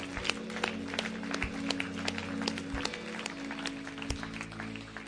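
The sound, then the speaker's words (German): A church audience applauds steadily in a morning service, a dense patter of many hands clapping at once, with a low sustained hum and a few thumps underneath, moderately loud. “Hey Church, lass uns Gott und diesen Menschen einen Applaus geben heute Morgen.”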